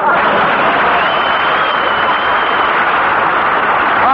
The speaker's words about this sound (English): Russell Marks, applause.